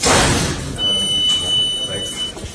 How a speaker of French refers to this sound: Et toute la journée, il y a ce bruit, là, des portes qui font clic-clac. Ah, toujours.